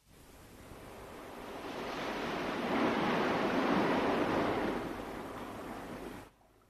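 Ocean waves surge in a broad, roaring wash that swells gradually to a peak midway, then eases back and cuts off abruptly near the end. No voices are present.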